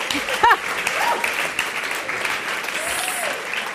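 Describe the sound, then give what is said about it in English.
A crowd applauds steadily, a dense wash of clapping at an even, fairly loud level, with a few brief whoops and cheers rising above it near the start and again toward the end. “Could you all please give Lovely just another round of applause?”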